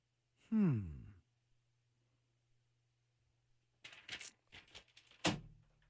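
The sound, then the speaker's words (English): A low vocal groan sweeps downward, then after a pause comes a burst of papery rustling that ends in one sharp slap as paper is slammed down on a desk. “Slams paper down.”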